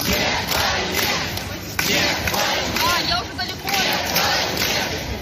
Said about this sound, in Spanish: Es el sonido de manifestantes que están gritando Putin a las trincheras, consignas como esa o este no a la guerra.